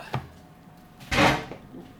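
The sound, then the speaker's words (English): The big heavy door of a minus-18-degree cold store, where birds are kept for post-mortem examination, opens: a sharp clunk of the latch, then a broad, rushing scrape as the door swings and its seal pulls free, with no talking. “Right, this is a big heavy door.”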